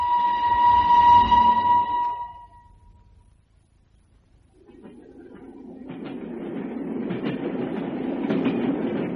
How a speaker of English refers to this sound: Excuse me, sir. This is my train.